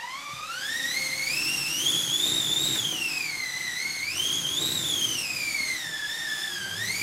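A wind machine, a wooden drum like that of an old washing machine with a cloth stretched over it, is turned so the drum rubs the cloth. It howls steadily, its whooshing pitch rising and falling in slow swells like gusting wind, with airy overtones and a broad rushing texture; no one speaks.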